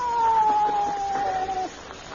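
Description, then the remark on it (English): A single long, drawn-out meow from a cat called Sweet Alice that slowly falls in pitch and holds for over a second before cutting off, heard alone against faint background noise. “Hey, kitty, kitty, kitty.”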